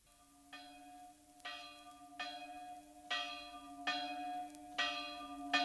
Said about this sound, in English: And the distinctive carillon sounds of church bells from the Ticino provide a message of joy and reflection.